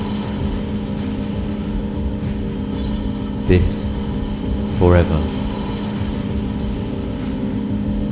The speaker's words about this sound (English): It's a train again.